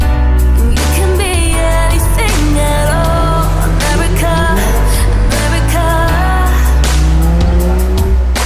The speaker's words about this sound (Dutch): We lopen downtown Miami. Ik zag net over 2 miljoen aan dollar aan auto's rijden in 10 seconden. 3 Rolls Royces en 1 Ferrari. Zit je al snel op de 2 miljoen.